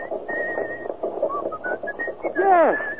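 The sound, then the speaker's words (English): Someone whistles a short tune, a string of clear sustained notes stepping up and down, ending in a swooping downward slide. “Go on, whistle it.”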